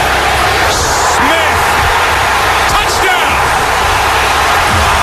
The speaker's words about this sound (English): Listen to that crowd.